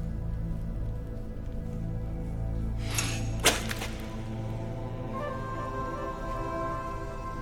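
Two sharp whip lashes crack close together, the second louder and more cutting, over a steady low ambient rumble with no voices, as a captive is whipped during an interrogation about where a rebel tribe is hiding.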